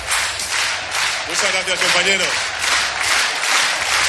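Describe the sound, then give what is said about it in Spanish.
Applause at a Socialist political rally in Barcelona for Sánchez: a dense, steady wash of crowd clapping filling all four seconds, with a raised voice calling out over it in the middle. “Este aplauso lo dejo ya.”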